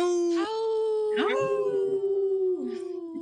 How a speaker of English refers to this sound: Howl! Right on. That was a good howl.